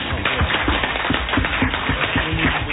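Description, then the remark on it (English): An audience claps steadily for a few seconds, a dense, even patter of many hands at moderate loudness with no voices over it. “There's not enough time to clap.”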